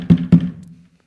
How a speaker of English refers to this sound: It was just knocking.